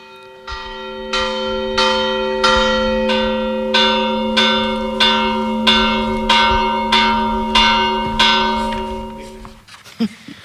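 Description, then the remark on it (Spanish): Church bells in Guillena toll in a steady, unhurried rhythm, about a dozen loud strokes whose ringing tones overlap and hum on between strikes, then stop abruptly near the end. “Vamos a escuchar las campanas.”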